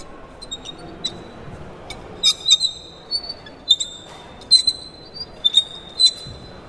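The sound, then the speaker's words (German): A fork scraped on a plate gives off shrill, high-pitched squeals in short repeated bursts, fairly loud, imitating the screeching brakes of a steam train coming to a stop. “Und irgendwann muss sie wieder anhalten und dafür nehmen wir dann den Teller und die Gabel.”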